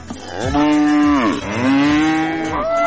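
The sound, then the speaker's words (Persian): A cow kept by a woman who raises cattle moos loudly, two long, drawn-out bellows back to back, each rising and then falling in pitch, with no talking. “یکی از زنانی که مصروف گاوداری است میگوید سیر از گاو دارد که از کاروبارش عاید خوبی به دست می آورد.”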